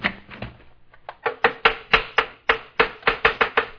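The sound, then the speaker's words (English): A carpenter busy working wood in his shop in Nazareth, Galilee: after a few soft scrapes, a steady run of about a dozen sharp, dry chopping or tapping strikes on wood, evenly spaced and fairly loud, with no voices. “And people flocked to him from the cities of Judea and Transjordan and beyond, even unto Nazareth in Galilee, where a carpenter was busy in his shop.”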